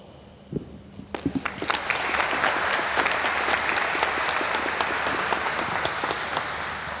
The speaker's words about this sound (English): Please welcome him for a huge round of applause.